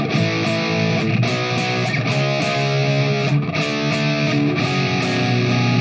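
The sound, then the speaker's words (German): An overdriven electric guitar plays loud, sustained chords through a capture of the Overdrive 1 channel of a Marshall JVM amp, with steady strummed attacks every second or so, the crunchy distorted tone filling the whole stretch with no talking. “So, das ist jetzt ein NAMM von dem Overdrive 1 Channel von einem Marshall JVM.”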